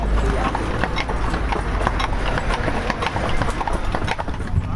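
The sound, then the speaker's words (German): Horses' hooves clip-clop steadily at a walking pace going down a hill, a regular stream of sharp knocks over constant low rumbling, fairly loud throughout. “Im Schritt den Berg ab. Naja, da sind wir unterwegs. Also den Pferden geht's gut.”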